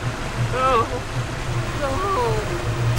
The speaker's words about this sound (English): Rincewind and Twoflower cling to a tree branch in fast-flowing waters.